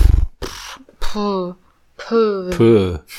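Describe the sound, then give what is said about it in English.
A voice imitates a horse snorting, with short breathy snorting bursts mixed into a few drawn-out, wavering vocal calls, about three separate sounds in a row. “Ich finde, das ganz normale ist also, ja eher so oder so dieses Schnauben von dem.”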